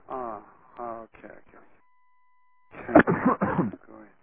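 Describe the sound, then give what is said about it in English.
Three or four harsh coughs burst out in quick succession during a meeting, the loudest in the middle, after a brief stretch of muffled voice and a faint steady tone. “Pardon me for coughing.”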